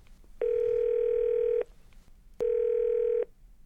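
A telephone dial tone sounds in two long, steady electronic beeps separated by a short pause, clear and fairly loud over a faint background hiss, with no voices.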